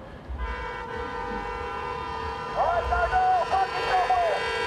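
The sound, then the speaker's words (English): Several vehicle horns honk over a low traffic rumble on a Texas road during the 2020 presidential election, from a so-called Trump train: a caravan of vehicles, mostly trucks festooned with Trump flags and pro-Trump regalia. One steady blare is joined midway by louder, wavering toots in quick overlapping bursts. “This is the so-called Trump train, caravans of vehicles of mostly trucks festooned with Trump flags and other pro-Trump regalia.”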